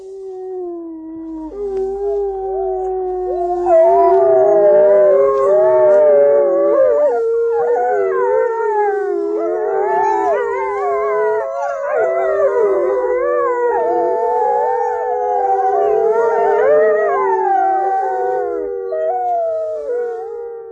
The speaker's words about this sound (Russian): И несколько дней им не давали пищи. Потом приехал звукоператор с аппаратурой. К волкам вышел сторож, который раньше кормил их, и животные завыли. Так была сделана редкая запись. Послушайте.